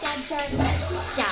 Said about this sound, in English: Sheesh, she must be in the shower. We're gonna be late.